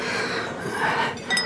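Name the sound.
glasses clinking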